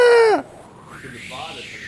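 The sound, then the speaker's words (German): A voice imitates a seagull's cry: one loud, shrill, strained call that drops sharply in pitch at the end, followed by a quieter, wavering vocal tail. “Aber ich denke, meine Möwe ist sehr gut.”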